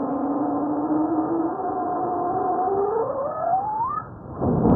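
Volcanic tremor, 10 minutes compressed into 10 seconds, made of many tiny earthquakes, 5 to 20 each second: a steady, noisy buzzing hum whose layered harmonic tones slowly rise in pitch, sweeping sharply upward near the end before breaking into a rough rumble.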